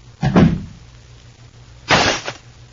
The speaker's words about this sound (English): And Claudia Vincent picks up a vase of flowers and crashes it to the floor in her rage over the turn of events.